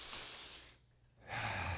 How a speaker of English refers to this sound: That the sound of us breathing declares God's name.